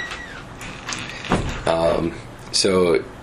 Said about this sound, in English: Can you shut the door? Thanks.